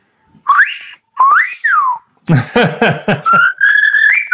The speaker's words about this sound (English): even during games that would take a whistle, you know, that most guys would recognize and would look at me or glance at me. And I had different whistles for everybody. This was El Pibe.